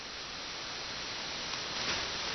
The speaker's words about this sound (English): Oops, I lied. There's static. Right when you said you lied, I heard the same static. But before that, I heard the pure, clean hiss.